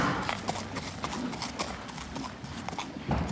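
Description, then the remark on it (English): Horse hooves clip-clop in a steady walking rhythm as a tall riding-school horse is ridden at a walk, a series of sharp knocks over a low, rumbling background, with no voices. “I'll admit it's been a while since I've been on a horse, so wish me luck.”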